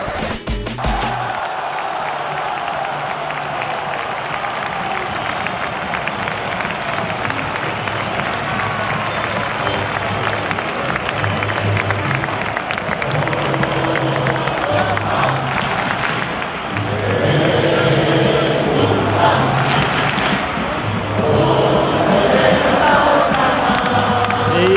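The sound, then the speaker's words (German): A packed stadium crowd roars steadily with applause and cheering at the final whistle of the football derby in which FC Barcelona beat Espanyol 1:0 in Xavi Hernandez's debut as coach. A dense loud wash of noise swells even louder in the last few seconds as the match ends. “Wie ihr hört, das war der Schlusspfiff.”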